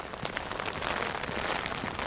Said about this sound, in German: Es regnet, Sie hören nur das Tropfen und Klappern, das Knacken könnte man fast sagen, der Regentropfen oben auf dem Schirm. Es prasselt und knackt. Ja, ist eigentlich ein ganz schönes Geräusch, ganz beruhigend.